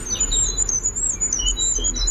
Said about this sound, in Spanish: Y el peso pluma, 7 gramos de pájaro, el sonido más agudo de la fauna ibérica, un reyezuelo sencillo, un pajarito diminuto de los bosques.